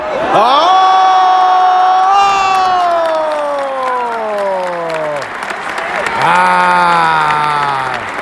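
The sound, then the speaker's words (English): A big wrestling arena crowd cheers and applauds loudly and continuously during a match as Fale is backed into the corner, with long drawn-out vocal roars that slide downward in pitch, rising twice over the steady wash of clapping. “Man, this crowd loves the big boys.”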